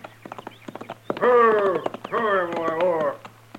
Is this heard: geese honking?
no